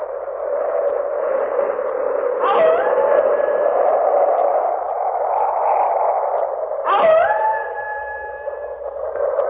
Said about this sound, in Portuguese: Aqui estamos eu e você no meio da ventania e dos lobos uivando.